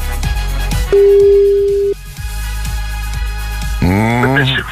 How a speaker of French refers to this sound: Pour la première fois de la matinée, le téléphone sonne. C'est peut-être chez vous que ça se passe.